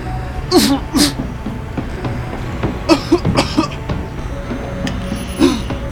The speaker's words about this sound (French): Monsieur, vous toussez? Êtes-vous abîmé?